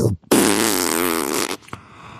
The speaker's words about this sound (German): Boah, der hat einfach so laut gefurzt. Was? Der hat einfach so laut gefurzt, während er einfach in mich reindringt.